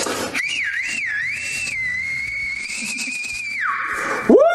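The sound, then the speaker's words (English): A loud, sustained high whistle from a video being played warbles up and down, holds a steady pitch, then drops and ends with a quick rising squeal, over faint background noise. “Made her asshole whistle.”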